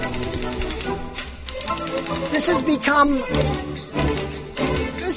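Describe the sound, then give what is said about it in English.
Rapid, steady clacking of keys as a woman types on an old manual Underwood typewriter, fairly loud, with brief pauses between bursts and murmuring voices faintly underneath. “She's using an old Underwood.”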